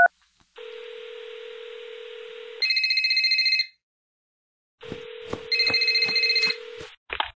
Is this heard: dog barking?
no